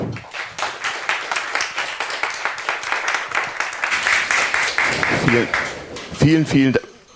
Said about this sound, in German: Bitte begrüßt mit einem ganz, ganz großen Applaus, damit sie auch wirklich munter werden